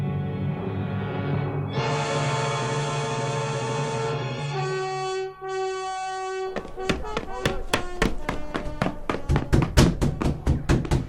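A sustained droning musical tone fades out, then a rapid series of sharp, loud knocks on a door follows, growing quicker and more insistent toward the end. In a radio drama, Ibn Muljam knocks at the door of the house of Qatam bint al-Asbagh.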